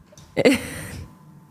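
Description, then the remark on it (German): A dog sleeping beside the people recording breathes out in one short, breathy huff with a brief throaty grunt at its start, then trails off into a soft, fading exhale. No one speaks. “Ich weiß nicht, ob man es gehört hat, aber er schläft gerade. Vielleicht kann man das Atmen reinschneiden, das wäre lustig.”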